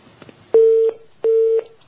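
Two steady, mid-pitched telephone tones sound one after the other with a short pause between, the signal of a phone line cutting off during a call. They are loud and clear, with no talking.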